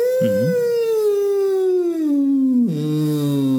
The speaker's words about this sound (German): Ich mache das mal vor. So hoch wie möglich fange ich an mit dem Summen.